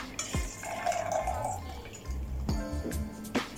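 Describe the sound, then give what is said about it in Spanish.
Mineral water pours steadily into a glass holding ice and Chivas whisky, a bubbling, gurgling stream with a few small drips and clinks along the way, fairly loud throughout. “Agua mineral.”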